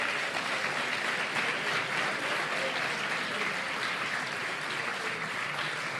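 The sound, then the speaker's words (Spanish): Sustained applause from a sizable audience at an awards ceremony, greeting Carne Cruda as winner of the Actualidad y Sociedad category, steady dense clapping filling the whole stretch at an even, fairly loud level with no one speaking over it. “Y el podcast ganador en esta primera categoría de Actualidad y Sociedad es Carne Cruda. Un fuerte aplauso.”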